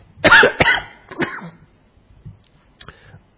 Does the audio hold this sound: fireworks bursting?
no